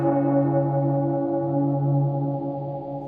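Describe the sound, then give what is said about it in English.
A single deep bell rings out, its rich humming overtones sustaining steadily and fading only slightly over a few seconds, heard alone with no voices. “Do not ask for whom the bell tolls, because we don't actually know.”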